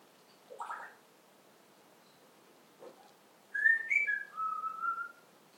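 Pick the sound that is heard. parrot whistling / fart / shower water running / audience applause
parrot whistling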